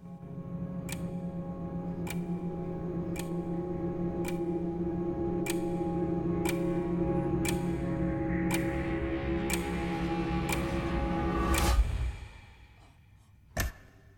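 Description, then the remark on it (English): A desk clock ticks at an even pace over a low humming drone, then the hum cuts out after a louder swell, leaving near quiet and one final sharp tick as the clock's second hand stops and goes back a second. “Clock's second hand stops and goes back a second.”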